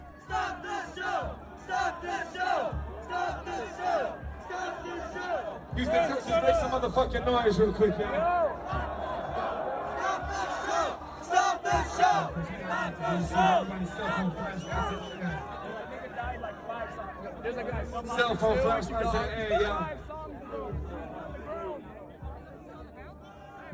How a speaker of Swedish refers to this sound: folk som skriker på hjälp när han står liksom och ler och njuter av showen och man kan tydligt höra i de här klippen hur folk skriker help me ifrån publiken.